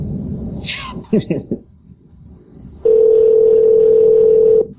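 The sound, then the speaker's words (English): After a few muffled rustles and faint voice-like sounds, a loud, steady telephone tone sounds on one pitch for about two seconds, then cuts off abruptly, while someone calls a cell phone. “Call his cell phone.”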